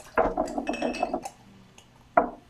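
A Sam Adams beer glass is handled, giving a busy run of clinks and knocks for about a second, then quiet before one more sharp clink.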